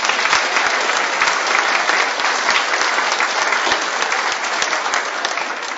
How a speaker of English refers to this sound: Wow, that was awesome, wasn't it? Another round of applause for those kids.